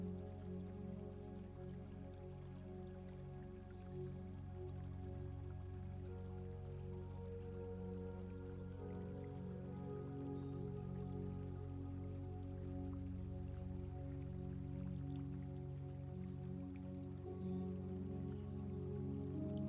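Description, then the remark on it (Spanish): Gently flowing water trickles softly and steadily throughout, quiet and continuous, blended with a sustained low humming tone underneath. No voices are heard. “Siente cómo el agua acaricia tus pies.”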